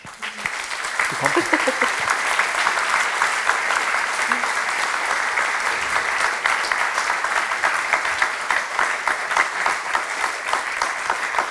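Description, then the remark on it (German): Sustained audience applause, a dense, steady wash of many hands clapping at an even loudness for about eleven seconds, with a brief murmur of voices at the start. “Einen herzlichen Applaus für dich.”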